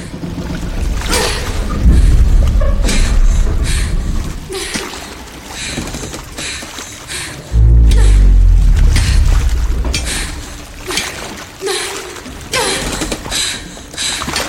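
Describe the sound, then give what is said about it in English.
A ship's hull groans and creaks loudly over rushing water in a film scene with no score, with deep rumbling surges around two and seven seconds in and a constant noisy wash throughout. No music or voices. “But again, sound design is great here because the groaning and creaking is super loud and there's no score.”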